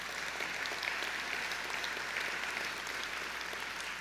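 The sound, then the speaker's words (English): Steady applause from a crowd for the treasurer and the finance committee, dense and continuous clapping at an even loudness for about four seconds, with no voices over it. “So actually, you want to give him a round of applause, him and the finance committee.”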